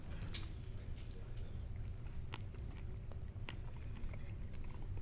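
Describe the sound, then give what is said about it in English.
Wet chewing of food coated in garlic Carolina Reaper hot sauce, with sharp crunchy bites scattered throughout, a steady munching rhythm over low background rumble, with no clear talking. “Is there something crunchy in it?”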